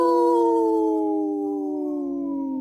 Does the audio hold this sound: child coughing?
no